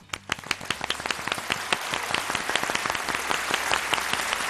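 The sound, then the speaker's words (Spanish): Audience applause for the Playa de las Catedrales in Galicia, Spain: many hands clapping at once, starting with a few distinct sharp claps that quickly thicken into a steady, dense patter of crowd clapping that holds at an even, fairly loud level. “Le damos el aplauso del día.”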